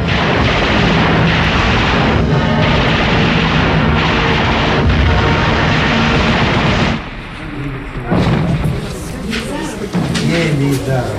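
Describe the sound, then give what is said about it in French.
Stuka dive bombers attack Russian armoured vehicles amid a dense, loud roar of explosions and blasts lasting about seven seconds, then a slightly quieter stretch with a brief high-pitched whine and further rumbling bursts. “Des blindés russes sont attaqués par des Stuka.”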